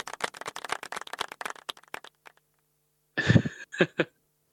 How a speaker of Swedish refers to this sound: Det blir en applåd för varje.